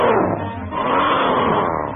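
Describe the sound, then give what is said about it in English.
A loud, sustained tiger roar fills the whole two seconds, a deep rumbling growl with a harsh, raspy edge and no pauses, powerful with no one speaking. “Then his eye spotted another banner, and he heard the most ferocious-sounding roar.”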